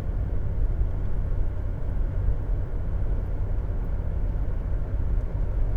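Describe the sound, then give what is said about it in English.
Steady low rumble inside the cabin of an old little green pickup truck while driving, a constant droning road and engine noise dominated by deep frequencies, with no voices, holding evenly throughout. “I wish we had some music, I'm sorry, the old beast, little green truck with a big heart doesn't have a stereo, it's got a radio, but I won't subject you to the radio DJs.”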